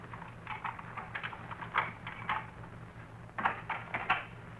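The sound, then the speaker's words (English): Footsteps outside the house, a series of soft crunching steps at an uneven walking pace, pausing briefly midway before continuing, over a steady low hum with no talking. “I thought I heard footsteps outside the house.”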